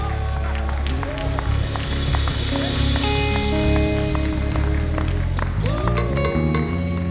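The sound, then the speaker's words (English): A large crowd claps steadily and shouts praise to God with enthusiasm, a dense, loud wall of applause and raised voices filling the whole stretch without a break. “One more time, let's clap our hands and give God a shout of praise.”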